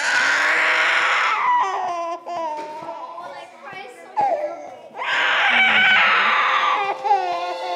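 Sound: baby screaming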